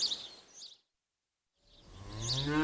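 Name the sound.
cow mooing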